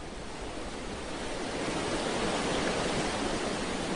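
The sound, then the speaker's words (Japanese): Dense, steady rushing of fast-flowing river water at night, five to six metres below a bridge, a broad continuous roar that swells slightly louder halfway through and carries on without pause or voices. “その女の人は橋から身を踊らすと 5,6 メートル下の流れの激しい川へと落ちていった。”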